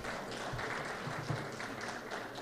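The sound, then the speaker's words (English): Steady, dense clapping from a crowd, coming from very young audience members, fills the whole stretch, a continuous patter of many hands at moderate volume with no pauses and no voices standing out. “The clapping is coming from some very young members of the audience.”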